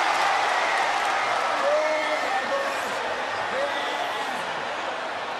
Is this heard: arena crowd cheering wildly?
yes